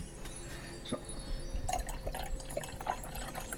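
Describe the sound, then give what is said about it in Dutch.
A spritz cocktail is poured into a glass, with splashing, bubbling fizzy liquid and small clinks and drips over a few seconds, no one speaking. “Maar met een flinke scheut spritzer erin is het goed te doen.”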